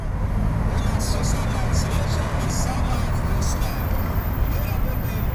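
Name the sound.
street traffic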